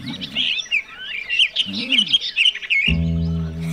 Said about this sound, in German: Hey, ihr Zwitschernasen, was heißt Dittrio-Dittrio?